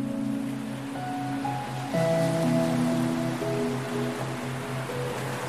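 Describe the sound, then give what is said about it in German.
A steady wash of ocean waves rolls continuously beneath soft, sustained musical tones, with a slight swell in the surf about two seconds in and no voices. “Dann verschwindet der Delfin in den Wellen des Meeres und schwimmt davon.”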